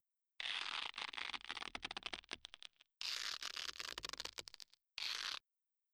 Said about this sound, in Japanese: まあいいわ、変なことをしないように手首をガムテープで縛るわね。じっとしてなさい。